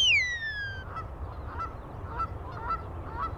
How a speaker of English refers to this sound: Just as the dogs reach the geese, the birds scramble into the air. It's over in seconds, and the dogs are recalled.